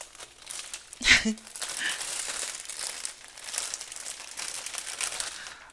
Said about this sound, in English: Here is the cutting board. I'll just take it out of the package.